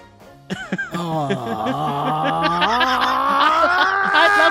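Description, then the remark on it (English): After a brief quiet moment, a loud, sustained shriek kicks in and holds for about four seconds, its strained pitch sliding gradually upward as it goes on. “The shriek! Yay, he's got it, everyone!”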